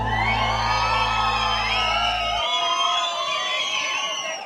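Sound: audience cheering and shouting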